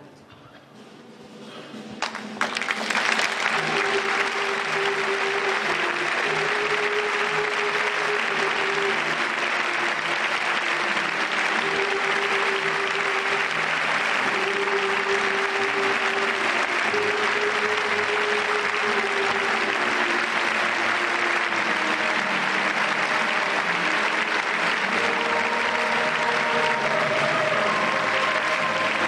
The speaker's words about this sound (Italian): Vi dico subito che siamo costretti a sfumare, ma l'applauso in realtà dura ancora diversi minuti. E questo spettacolo, Magazzino 18, e siamo felici di aver pagato il canone per questo, questa sera viene trasmesso da Rai 1 in seconda serata.